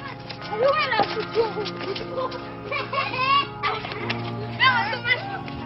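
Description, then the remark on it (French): Children of miners play outdoors in the streets of old miners' terraced housing (corons), their high voices calling and shouting in overlapping bursts, with a steady low hum underneath and occasional yelps rising above the chatter. “Ces enfants qui jouent dans les rues des vieux corons sont eux aussi fils de mineurs, petits-fils de mineurs.”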